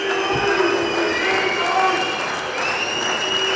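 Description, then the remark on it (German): A large crowd at a club members' meeting in Dortmund, with the team present, whistles and applauds steadily, with shrill whistles cutting through a dense wash of clapping and murmuring voices. “Pfiffe, Applaus.”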